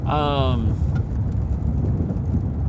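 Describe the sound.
A car driving on a road, heard as a steady low rumble of road and engine noise throughout, with a brief tonal voice-like sound at the very start.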